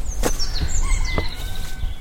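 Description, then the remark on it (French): A rooster crows outdoors by the side of a path, its drawn-out call rising and falling over a couple of seconds, with soft rustling and light knocking sounds around it. “Ah, un coq, là, au bord du chemin.”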